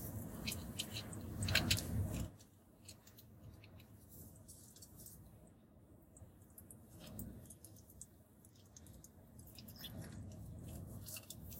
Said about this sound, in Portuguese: Deixa eu abrir aqui e tomar água, eu tô com a garganta seca. Pera aí.